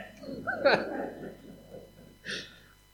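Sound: sneeze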